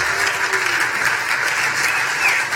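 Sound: audience clapping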